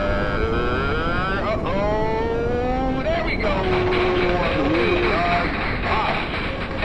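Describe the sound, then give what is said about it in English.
A deep, thunderous roar of space shuttle main engines and solid rocket boosters igniting after a 3, 2, 1 countdown at liftoff of Mission 138 to the International Space Station, loud and sustained throughout, with rumbling, shifting tones layered over a dense wall of noise. “Main engine ignition. 3, 2, 1. SRB's ignited, and we are...”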